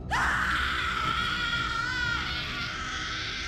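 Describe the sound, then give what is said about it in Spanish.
A woman lets out a single long, piercing scream of terror, loud and sustained for about two seconds before trailing off into a strained, quavering tail. “Metió la cabeza dentro de las cobijas y escuchó abrir la puerta de la habitación de su patrona, y solo con el primer grito de la señora, ella también pudo hacer el suyo.”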